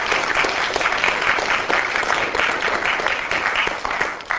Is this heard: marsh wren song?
no